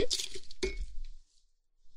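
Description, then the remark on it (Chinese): Two bright glass clinks about half a second apart, fairly loud, each leaving a short ringing shimmer that fades into quiet, as glasses of lemonade are clinked together in a toast. No one speaks. “来，女主人我，喝柠檬水，跟你干杯！”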